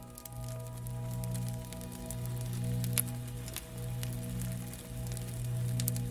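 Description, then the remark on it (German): Soft, steady rain with scattered droplets ticking and pattering throughout, set against a low, constant humming drone underneath. “Dann hörst du ein sanftes Regengeräusch.”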